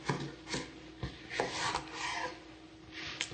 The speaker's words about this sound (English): Take the cucumber, I'm going to cut it in half.